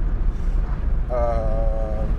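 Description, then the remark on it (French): Wind blowing in through two open windows and passing between them, a steady low rumble with gusty buffeting throughout, joined halfway by a brief wavering hum that sounds like a voice. “Je ne sais pas si tu entends le vent, c'est juste que je l'ai de travers et que j'ai les deux fenêtres ouvertes, donc ça doit passer entre les deux.”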